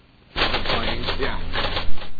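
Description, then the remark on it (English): Rapid, steady clatter of typewriter keys striking, loud, starting abruptly after a brief quiet moment and continuing in a dense mechanical rhythm with no voices. “Let me dig out that typewriter sound because I want to tell you something.”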